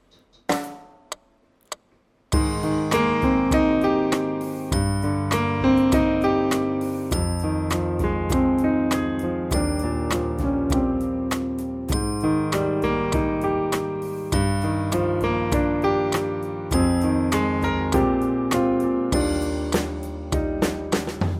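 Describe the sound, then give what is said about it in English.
A short piano riff played on a phone app's piano over a steady, evenly quantized drum beat played on a Phantom, with bright tonal chords and crisp regular hits. It starts after a couple of sparse clicks and then loops continuously without any talking. “We'll build up a little piece very, very briefly here using the phone's piano all the way through and see what happens.”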